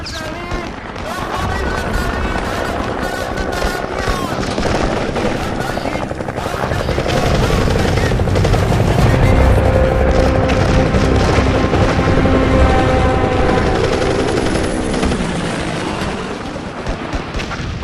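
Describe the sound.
Steady automatic gunfire from Iraqi Baathist forces crackles in rapid bursts over a dense, continuous battle roar, with heavy booms of 23 and 35 millimetre gun shelling mixed in and muffled voices beneath the din.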